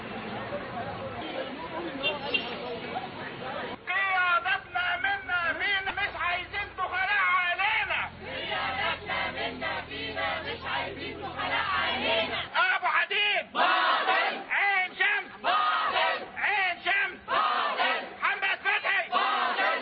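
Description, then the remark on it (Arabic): A large crowd of Agricultural Research Center researchers at a protest vigil in Egypt chants loudly and continuously in rhythmic unison, demanding the Minister of Agriculture's removal and pay parity with Egyptian university researchers, voices rising and falling in repeated slogans, with brief pauses and surges of shouting throughout. “النهاردة كان في وقفة احتجاجية لباحثي مركز البحوث الزراعية تطالب برحيل وزير الزراعة وتعديل الأوضاع المالية والمساواة بالكادر البحثي للجامعات المصرية.”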